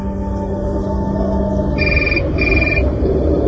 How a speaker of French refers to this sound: Et mon téléphone sonne à ce moment-là.